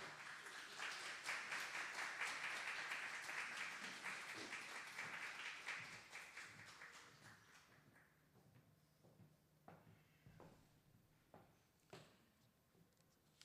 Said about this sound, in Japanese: 盛大な拍手を持って先生をお迎えしましょう。